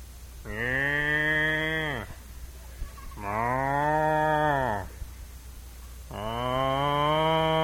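A cow moos three times in a steady rhythm, each long, loud call lasting over a second with short pauses between, clear with no talking.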